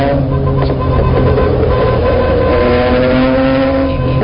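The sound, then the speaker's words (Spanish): A car engine strains and drones steadily while driving, a loud, continuous low rumble with harmonic whine that holds for several seconds without letting up. “¿A cuánto velocidad puede ir ese mío allí, sabiendo que este carro va rebuznando ya y no le da para alcanzarlo?”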